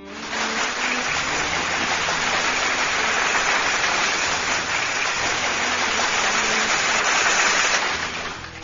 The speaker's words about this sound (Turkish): Kocaman bir alkış gelsin şiire.